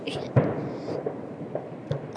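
fireworks exploding overhead

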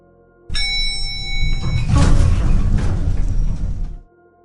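elevator doors sliding open

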